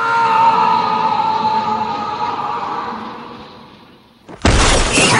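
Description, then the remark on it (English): A long, wavering tonal wail slowly fades for about four seconds, then a sudden, loud burst of window glass shattering crashes in as a man is kicked out through a window, with debris raining down, filling the final second. “Danny kicks the stranger out through a window, but grabs the man's trousers before he falls. Debris rains down.”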